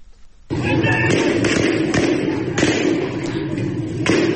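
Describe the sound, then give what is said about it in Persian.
Several sharp gunshots ring out at irregular intervals over the loud, steady roar of a street protest crowd chanting slogans in Behbahan, with indistinct shouting voices throughout. “همینجاست که میگن تیراندازی میشه و ظاهراً کسی هم کشته میشه.”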